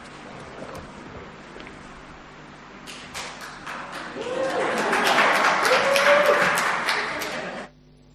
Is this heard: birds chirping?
no